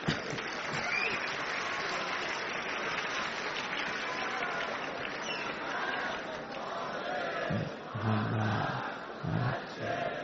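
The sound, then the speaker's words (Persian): A large audience claps steadily and loudly throughout, with many voices chanting the salawat blessing in unison over the applause toward the end, a dense, continuous crowd roar. “نه این بحث دست زدن و صلوات فرستادن تبدیل نشه به یک نمیدونم مسابقه و فلان چیز،”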